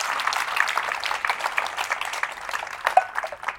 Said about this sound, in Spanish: Puede darle un fuerte aplauso a nuestro Dios que es fiel y que nos cuida.